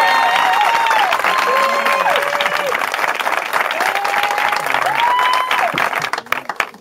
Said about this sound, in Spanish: ¡Un buen aplauso para los novios, por favor!